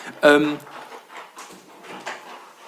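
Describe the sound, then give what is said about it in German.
A dog stretching with a short, squeaky yawning whine lasting about half a second, then quieter shuffling and faint movement noises. “Unser Hund streckt sich gerade.”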